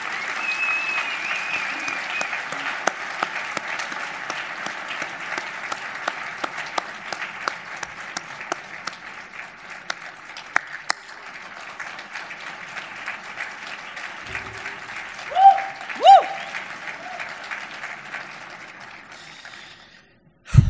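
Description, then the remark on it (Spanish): Sustained applause from a large audience at a Sitges award ceremony for the best short film award to El fantasma de la Quinta, dense clapping steady for about twenty seconds before tapering off, with a couple of brief whoops near the end. “Un fort aplaudiment, sisplau.”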